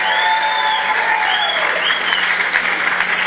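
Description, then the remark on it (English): Sustained applause from a sizable audience for Rex Sikora of ATI, loud and steady throughout, a dense wash of clapping with a few faint whistles or cheers mixed in and no talking over it. “How about a big round of applause for Rex Sikora, ATI?”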